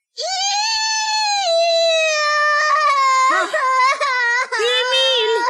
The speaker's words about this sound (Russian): Сестренка Ида ревела, и Эмиль тоже.